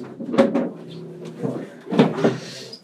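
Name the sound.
door being closed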